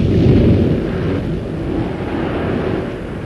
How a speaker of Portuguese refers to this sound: O mar está furioso. O vento terrível. Serão o mar e o vento mais poderosos que a vontade de meu Pai que os criou?